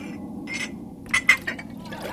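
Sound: glass bottles clinking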